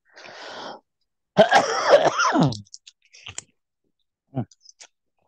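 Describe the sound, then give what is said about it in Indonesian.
A person with a cough gives a breathy exhale, then a loud, raspy throat clearing that rolls into a rough cough, followed by a few small clicks and mouth sounds. No one speaks. “di sini juga lagi agak batuk nih dari Iya.”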